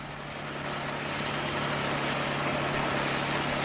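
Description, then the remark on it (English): A car drives homewards at night as a thunderstorm is just starting to break, with a steady, unbroken engine drone and a broad rushing road noise, holding at a constant moderate level throughout with no voices. “And then, with the thunderstorm just starting to break, the kindly Mrs. Burke got out her car and drove Mrs. Breen homewards.”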